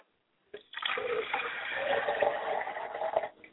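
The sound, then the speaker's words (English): Liquid is poured as a libation to Akamare in a steady, splashing stream for about three seconds after a moment of silence, fairly loud, with no voices. “We're going to pour libations to Akamare, acknowledging our higher self, because he is the Godhead of this universe.”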